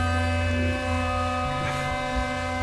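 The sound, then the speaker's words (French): A blue whale at the sea surface gives a deep, sustained roaring call, a steady droning tone layered with many even overtones that holds unbroken for the whole stretch, with no voices over it. “Et elle pousse des rugissements.”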